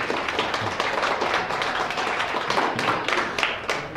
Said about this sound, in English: Well, good evening and welcome to Story Rise. Give yourselves a round of applause for coming out this evening.